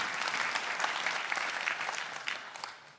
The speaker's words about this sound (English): You can clap, it's awesome.